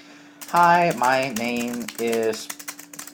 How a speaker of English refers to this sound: I typed it all on the Braille display and using the Braille keyboard. And this is something new with NVDA 2013.1 and later.